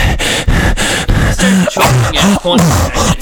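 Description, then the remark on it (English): A voice imitates the labored, gasping breathing of a video game character running low on air, with 30 seconds of air left: a run of loud, ragged breaths in an uneven rhythm, with strained low groaning tones creeping into the later breaths. “Whereas his breathing freaks you out more than the actual timer does.”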